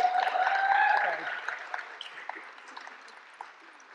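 A church audience claps in a brisk round of applause to say thank you, with a brief high whoop early on. The clapping is full at first, then thins into scattered claps that fade over a few seconds.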